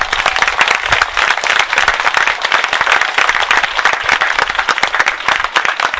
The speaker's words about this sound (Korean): 그런 의미에서 우리 유가족 어머니들 너무 기죽지 마시고 힘내시라고 박수 한번 보내주시면 좋겠습니다.